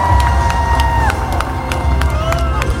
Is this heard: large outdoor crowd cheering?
yes